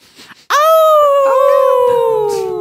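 A single wolf howl rises suddenly, then holds loud in a long, slightly wavering tone that slowly falls in pitch over about two seconds, after a brief faint rustle.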